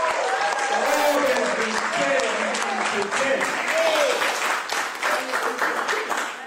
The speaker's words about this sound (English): Let's give everyone a big round of applause.